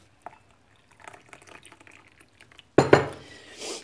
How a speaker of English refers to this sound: Hang on, let me pour the coffee.